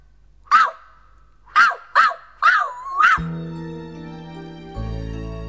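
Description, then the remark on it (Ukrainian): A small dog yips playfully, five quick, high barks in an uneven burst, the last drawn out into a whine, before a steady tonal hum takes over. “А песик вже тут, за кущиком. Гав!”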